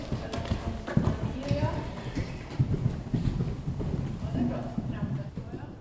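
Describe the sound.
A horse, Trolle, thuds and clops steadily on soft footing in an indoor riding arena, the rhythm surging briefly as it takes an obstacle about 60 cm high with its rider, with indistinct voices underneath.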